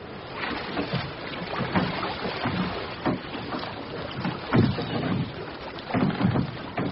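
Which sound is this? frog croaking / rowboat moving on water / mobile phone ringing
rowboat moving on water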